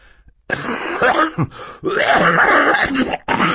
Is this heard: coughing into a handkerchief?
yes